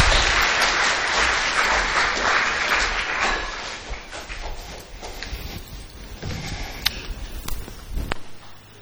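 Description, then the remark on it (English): A group of people claps steadily for several seconds, a dense wash of hand claps that gradually thins out, with a few scattered claps and small knocks near the end. “Can we give them all a round of applause?”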